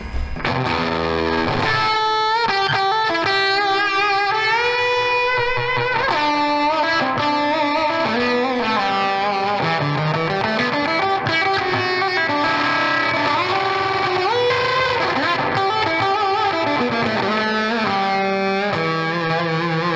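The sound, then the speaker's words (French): A heavily distorted, fuzzy electric guitar played through an effects pedal with reverb added plays sustained notes and sliding bends, with a reverb wash trailing behind each phrase, loud and continuous with no voices. “J'avais envie de mélanger, du coup, l'énervement de cette pédale et puis, du coup, de cette réverb derrière.”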